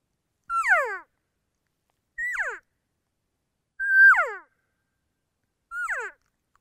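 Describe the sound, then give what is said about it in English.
Four short elk cow calls made by a caller to start off calling sequences, each a nasal, descending mew that starts high and slides downward, spaced evenly about two seconds apart and heard alone, without talk. “So I'll just give a couple quick simple cow calls to start off both of those sequences.”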